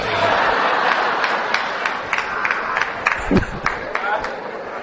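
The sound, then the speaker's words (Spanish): An audience bursts into steady applause, a dense wash of many hands clapping with scattered sharper claps standing out, mixed with crowd murmur and a few shouts. “Ahora no sé si ese aplauso era una indirecta.”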